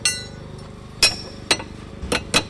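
A carpenter hammers while repairing a deck at a home in Ortley Beach, five sharp, ringing blows at uneven intervals, the last few coming closer together, over a low steady background hum.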